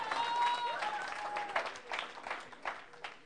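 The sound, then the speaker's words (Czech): A group applauds for a few seconds for a man who is leaving, the clapping dense and fairly quiet with a few louder bursts, and thin high tones drifting over the start. “Pojďme mu zatleskat, že odchází.”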